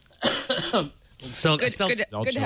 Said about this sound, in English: I still got this cough, guys.